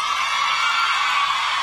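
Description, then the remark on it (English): A crowd cheers in a steady, continuous roar of many voices blended together, holding at an even loudness for the whole short stretch without a break or clear individual shout. “Listen to that cheer.”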